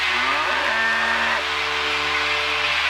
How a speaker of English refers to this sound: Do you hear a cow?